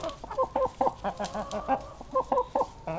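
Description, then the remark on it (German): Hens cluck in a steady run of short, throaty notes, several birds overlapping in quick bursts with brief pauses between them, as they peck dried mealworms from a patient's hand; no voices are heard. “Da picken die Hühner der Patientin die getrockneten Mehlwürmer aus der Hand.”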